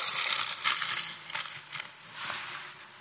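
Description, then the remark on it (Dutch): Crinkly plastic rustling as a bag full of balloons for a party is handled, a run of bright, crackling bursts rising and falling over about three seconds, with no one talking. “Nou, ik heb hier een zakje vol ballonnen.”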